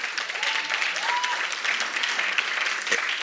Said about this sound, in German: Freunde, wir müssen noch eine Sache unbedingt lernen. Wenn einer klatscht, klatschen alle. Weil Gott ist es wert.